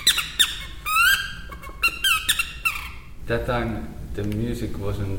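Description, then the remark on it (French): Shrill squeaky bird-like calls from a birch-bark lure, a quick series of rising and falling chirps, followed by a man speaking in the second half. “Et aussi, par exemple, l'écorce de bouleau avec laquelle on fait des appôts.”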